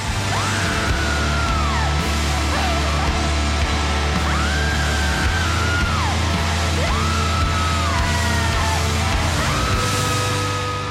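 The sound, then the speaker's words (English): A singer's high, strained wails and screams, recorded in a studio, rise and fall in long, repeated cries over a loud, dense band playing beneath, each howl swooping upward and then sliding back down. “Because you are just out of body, screaming, wailing, you know.”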